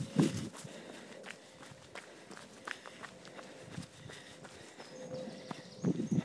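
Running footsteps on a forest trail just after heavy rain, now hot and sunny: a steady, quick rhythm of soft crunching thuds, with louder heavier bursts at the start and end and faint bird chirps in the background.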